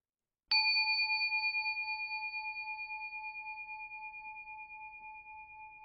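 A single meditation bell strike rings out to end a meditation and sustains for several seconds, its pure tone slowly fading with a gentle shimmering pulse, with otherwise quiet.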